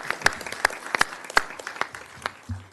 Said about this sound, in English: Yes, the applause is certainly well deserved.